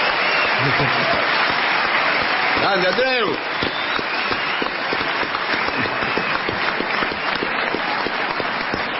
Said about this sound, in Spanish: Bueno, usted sabe que está Andreu Buenafuente hoy. Qué aquí. ¡Qué grande! Vamos a aplaudirlo.